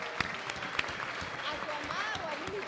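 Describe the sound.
Audience applause, a steady dense patter of many hands clapping for a few seconds, with some cheering and voices rising over it.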